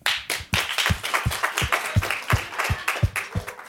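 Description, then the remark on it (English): An audience who have seen the film Emilia Perez applauds loudly, a dense wash of clapping with a steady rhythmic beat running through it, about three claps per second, and no one talking over it. “Can everybody who has seen Emilia Perez applaud?”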